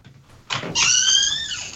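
An unlatched front door being pushed open: a short rattling bump, then a drawn-out, high squeaky hinge creak lasting most of a second, with no one talking.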